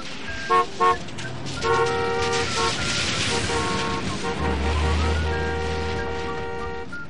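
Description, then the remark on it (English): Busy city traffic rumbles steadily while car horns honk repeatedly, starting with two quick short toots and followed by longer, overlapping blasts from several vehicles. “Only trains, cars, and buildings, as far as he could see.”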